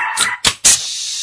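A small, neurotic dog lets out two quick, shrill yaps in rapid succession, loud, over a steady background hiss.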